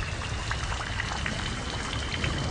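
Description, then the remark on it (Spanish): Steady autumn rain pours down in a dense, continuous patter, with scattered individual drops ticking out above the hiss. Even in loudness, with no voices. “Dejemos que la lluvia de otoño nos ayude.”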